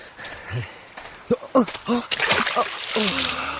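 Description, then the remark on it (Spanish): A peasant's axe drops into a deep, clear, flowing river with a watery splash and sloshing, while a voice calls out in alarm. The rushing, splashy water noise carries on under the voice to the end. “¡Mi hacha! ¡Oh, no! Se cayó al río.”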